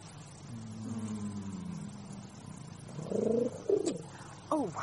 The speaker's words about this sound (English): I was forgetting the fly in the ointment. Pigeon in a shoebox, actually.